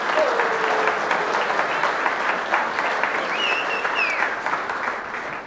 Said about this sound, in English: We want to give you a big round of applause, moms. Great job.